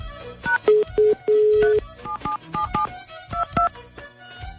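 A radio show dials the telephone number of a listener from Al-Hawija: a quick series of electronic keypad tones, some short beeps and a few longer held ones, clear over faint background noise, with no talking.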